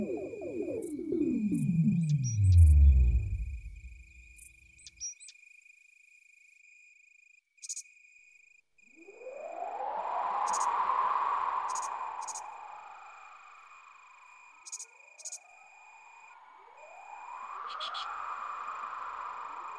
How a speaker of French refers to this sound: Pieds nus, elle écoutait le chant de la nuit, les insectes de nuit et les oiseaux de nuit, ceux qui ne chantent que la nuit. Et même les grenouilles au fond du jardin, et aussi le vent tout autour d'elle.